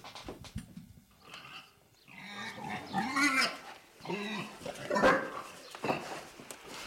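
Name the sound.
pig squealing and grunting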